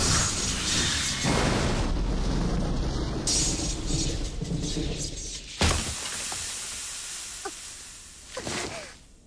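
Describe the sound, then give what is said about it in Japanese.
A sustained, roaring crackle of a magic lightning strike rumbles for several seconds, then a sharp thunder boom cracks out and decays into scattered sizzling crackles and a final rumble. “雷鳴は我が手にあり、天雷よ、目前の的へと降り注げ。”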